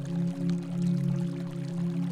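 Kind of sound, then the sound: nature, waterfall splashing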